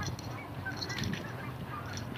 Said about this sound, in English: A few geese up there.